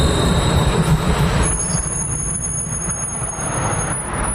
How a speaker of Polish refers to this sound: Dobra, teraz nadjeżdża tramwaj. Możemy posłuchać, czy jest tak głośno.